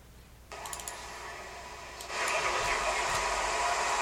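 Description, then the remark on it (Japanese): A train pulling away: a steady mechanical hiss starts abruptly, then jumps to a louder, fuller whooshing roar that holds steady, with faint higher tones flickering through. No voices. “で、発車の時の音がね、結構面白かったんで、ちょっとそれも聞いてください。”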